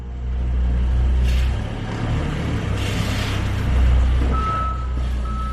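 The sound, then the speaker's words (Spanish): A heavy excavator rumbles and grinds as it demolishes the old train station, dating from 1884, in Ortigosa del Pestaño, a village of about 50 people in Segovia, Spain. A deep engine drone, bursts of crashing debris, and a steady high reversing beep near the end. “Era una excavadora dispuesta a reducir a escombros la estación de toda la vida.”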